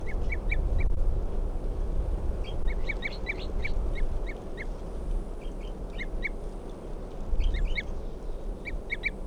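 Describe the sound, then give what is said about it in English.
A wild bird, responding to decoys, gives repeated short tooping calls in quick bursts of two to four notes, fairly clear, over a steady low rumbling background, with no voices. “It's a wild bird tooping there.”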